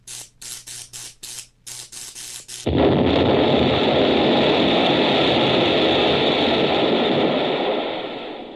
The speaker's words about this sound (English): This was one of the biggest explosions the professor ever had, because this was one of the biggest inventions he had ever had.